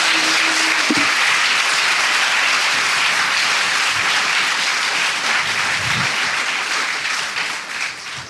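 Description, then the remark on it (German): A live audience at the Journalismusfest in Innsbruck applauds steadily for about eight seconds, a dense, even wash of many hands clapping, with a brief low tone at the start before the applause gradually thins toward the end. “Vielleicht können Sie sich ja einmal bemerkbar machen, damit man Sie auch hört und hört, wie viele Leute hier sind.”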